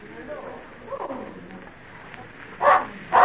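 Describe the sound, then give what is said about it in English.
A dog named Badger lets out two sharp, loud barks in quick succession near the end, following a stretch of quiet, murmuring background sound. “I've not heard Badger bark like that before.”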